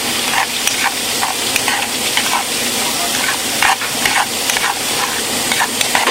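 A steady, crackling sizzle of spices, turmeric and red chili, frying in a pan, with repeated scraping taps of a utensil stirring through them, fairly loud, no talking.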